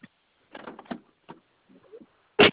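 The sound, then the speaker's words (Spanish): Mechanical clicks and rattles of a car door being opened to test the vehicle's door-triggered lock, a latch clunk and some shuffling, ending in a louder thump. No one speaks. “¿Me ayudas abriendo tu puerta, por favor?”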